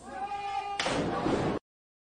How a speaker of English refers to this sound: Oof. That was a Face chair shot, and he swings chairs like I've never seen anybody swing chairs.